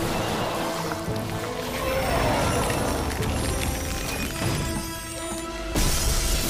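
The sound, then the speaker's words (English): A wall of ice created with a lightsaber cracks and shatters as it is smashed through, in a dense, crunchy wash that runs almost the whole time, with a louder burst of breaking near the end. “He hops onto another platform and uses the lightsaber to create a wall of ice.”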